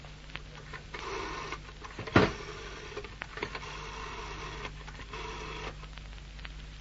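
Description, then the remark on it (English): A telephone located behind a door is dialed, with a sharp click followed by stretches of mechanical whirring and ticking that start and stop in short runs over a low steady hum. “Where's the phone? Yeah, over there, behind the door. Oh, good. I'll alert Ridgeway.”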